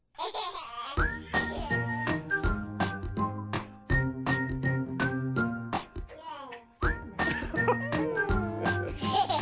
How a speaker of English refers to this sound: So are those baby giggles in the song, too? Yes, that's it, because they recorded it in the presence of a baby.